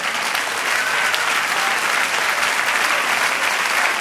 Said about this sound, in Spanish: Denle otro aplauso al Señor.